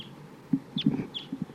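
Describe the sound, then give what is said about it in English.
Three or four sharp, high-pitched flight calls of a type 2 crossbill, among many crossbills flying around at 8:13, ring out at irregular intervals over a run of low, soft clucking notes. No one speaks. “A lot of crossbills here flying around, including one that sounds like a type 2 bird.”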